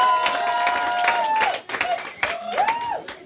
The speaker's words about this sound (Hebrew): ואני חושב שכל שנייה וחצי פה נתונה, צריך איזה מחיאות כפיים על מה שנעשה פה. אז מחיאות כפיים, באמת!